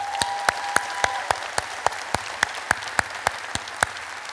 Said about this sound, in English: And why do we clap and give God a hand? Because he is good all the time. He's good to us all the time.